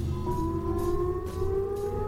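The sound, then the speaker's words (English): A sustained wailing tone like an air raid siren, slowly rising in pitch and holding steady and loud over a low rumbling drone, with no voices. “It's almost like a nuclear raid sound, isn't it?”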